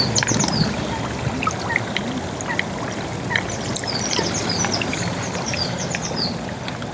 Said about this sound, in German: Das heißt, irgendwo hier unter uns, ganz tief, ist ein Raum mit flüssiger Magma, wo dieses Gas drin gelöst ist. Sieht ganz danach aus, ne? Etwas weiter, an einer anderen Stelle, hat es dann aber doch geklappt, das Geräusch der Mofetten aufzunehmen.